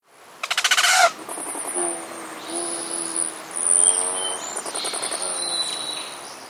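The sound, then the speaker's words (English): Male rufous hummingbird chips: a quick burst of rapid, buzzy chattering, then a steady series of thin, high squeaky chips and twitters, fairly clear, with no voices. “Have you noticed that those rusty orange speed demons that have adorned your flowers and nectar feeders since March, male rufous hummingbirds, are fewer in number?”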